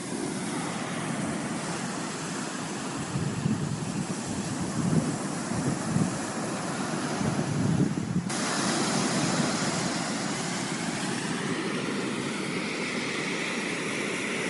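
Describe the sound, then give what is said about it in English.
Ocean waves and surf roar steadily for the whole stretch, a dense wash of sound that swells a little in the middle, with a breezy, wind-like hiss and no voices. “We leave you with another message from Mother Gaia's ocean.”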